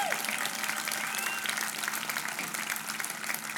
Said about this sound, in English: Would you give her another big round of applause?